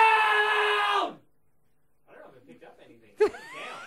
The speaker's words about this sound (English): I want you to scream loud. He's currently sitting at I'm sitting at 50, around 50 decibels. Right, so as loud I can be. As loud as you can be. Scream the word loud. Here we go.